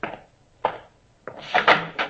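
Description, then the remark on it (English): A back door leading out to the backyard being opened: a couple of sharp wooden knocks and clunks from the latch, then a brief rattling, scraping stretch as it swings. No one speaks. “This door go out the backyard?”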